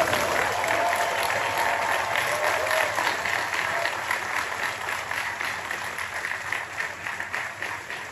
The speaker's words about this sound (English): So you can see there the alumni, the family, big standing ovation for the president.